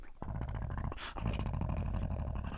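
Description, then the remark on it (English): A person's voice imitates a lumbering dog growling and slobbering everywhere, a rough, gurgling rumble held for a couple of seconds with a brief breathy burst in the middle, loud. “And you pop into invisibility as this dog comes lumbering. Just like slobbering everywhere.”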